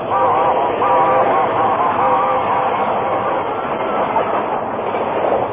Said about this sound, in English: The train raced by, enveloping the Lone Ranger, Tonto, and the unconscious man in a cloud of steam.